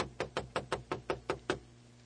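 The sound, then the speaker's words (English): A rapid series of about eight firm knocks on a wooden door, evenly spaced, with no voices alongside, as the sheriff and his watch arrive at the door. “The sheriff with the most monstrous watch is at the door.”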